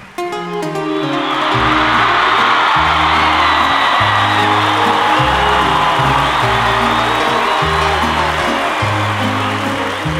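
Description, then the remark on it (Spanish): A large crowd roars and shouts loudly and continuously over steady, booming music, the noise swelling after the first second and staying intense to the end. “Otra vez porque no escuché el grito como siempre.”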